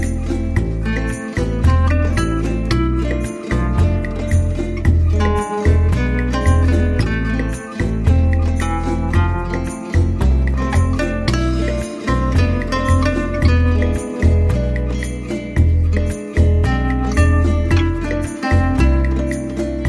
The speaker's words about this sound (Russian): Кастаньеты, погремушки, гитара.